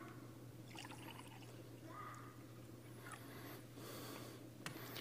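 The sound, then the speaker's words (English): Liquid is poured into a communion cup during a church communion rite, a soft, continuous trickle and splash lasting several seconds over a steady low hum, with no one speaking. “In the same manner, after the meal, he took a cup. The cup was filled.”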